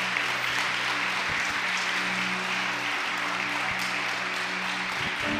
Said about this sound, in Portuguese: Uma salva de palmas para vocês, vocês arrebentaram agora.